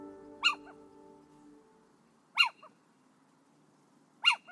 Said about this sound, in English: The next owl we're going to hear from is the little owl.